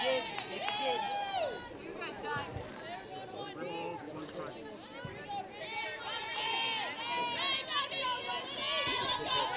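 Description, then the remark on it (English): Softball players chirp from the Trojans dugout during a game, several high-pitched voices shouting and chanting in overlapping sing-song bursts, loud and steady for about ten seconds without a break. “You can hear the chirping from the Trojans dugout.”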